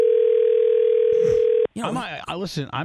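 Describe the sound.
A steady, unbroken telephone dial tone hums at a single mid pitch for over a second and a half while a phone call is being placed, then cuts off abruptly as voices begin talking.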